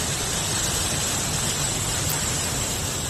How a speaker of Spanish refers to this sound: Así sonaba el río Eresma a los pies de la Sierra de Guadarrama.